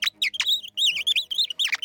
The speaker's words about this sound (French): Vous n'avez pas entendu chanter ? Ah bah oui, c'est le rossignol. Ah oui, c'est le rossignol.